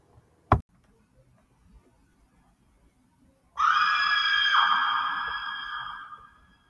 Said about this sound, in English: I run upstairs right as I hear the door break open and my mom scream.